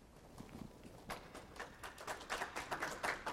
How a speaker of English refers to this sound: That's the first clap I've gotten 10 years from you guys. That's awesome.